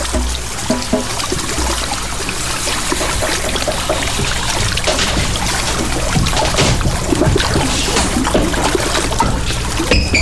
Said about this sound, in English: And then on top of that, you're listening to a loop of another recording, which is taken from Lake Winnipesaukee. I think it's probably last year. I think that was last summer took this.